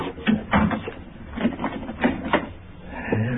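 An apartment door is pushed shut and locked: a run of wooden clunks and sharp metallic clicks in an uneven rhythm, moderately loud, with no voices over it.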